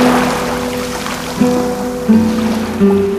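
Ocean surf at the Pointe des Poulains, a headland of black schist, roars like a storm even in calm weather, in a steady, loud wash of noise, with a low droning tone underneath that shifts pitch a few times. No one speaks.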